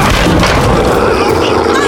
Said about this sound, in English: Hawk ran forward, kicked the door open, and burst into the laboratory.